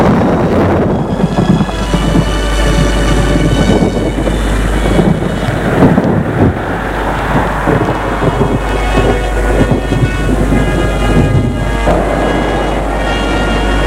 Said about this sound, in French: Une pluie diluvienne tombe sur eux.